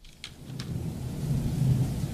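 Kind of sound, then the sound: nature, thunder and rain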